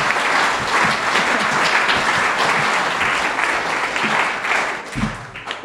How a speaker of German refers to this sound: Prost, jetzt könnt ihr applaudieren, dann können wir auch schon. Prost.